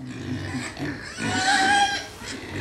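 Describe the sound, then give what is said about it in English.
A pig grunts and snuffles repeatedly at Baleham House Rare Breeds Farm in Suffolk, England, with a short, higher-pitched squeal partway through, against a faint outdoor background and no talking. “To find Britain's rarest pig, I went to Baleham House Rare Breeds Farm in Suffolk.”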